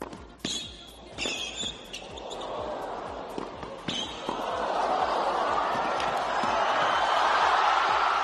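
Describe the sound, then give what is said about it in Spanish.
A few sharp ball-like thuds ring out over a murmuring crowd at a tennis match in Australia, which then swells into loud, sustained cheering and shouting from packed stands. “Exactamente eso, gente pues gritando, vitoreando desde unas gradas que veíamos llenas, con la gente tan normal, sin mascarilla.”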